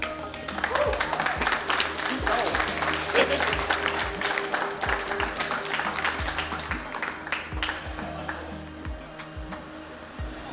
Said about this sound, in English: All right. Give a big applause